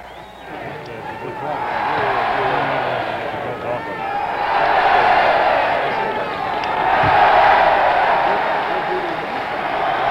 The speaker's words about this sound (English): A chant begins, more applause, women are waving handkerchiefs, hands are waving as they greet Dr. Martin Luther King, Jr.